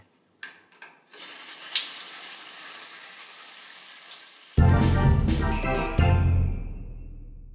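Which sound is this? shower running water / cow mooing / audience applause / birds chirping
shower running water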